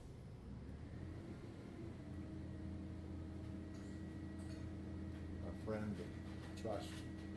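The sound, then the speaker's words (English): A garbage truck engine rumbles steadily outside as it passes, a low droning hum with brief mechanical squeals and clanks near the end. “Trash truck.”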